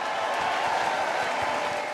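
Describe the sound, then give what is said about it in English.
A large crowd at a church service in Lagos claps steadily for Jesus in a dense, continuous wash of applause, filling the whole stretch at a loud, even level with no pauses. “Well, give Jesus a great big hand clap in Lagos.”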